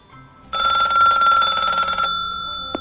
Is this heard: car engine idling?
no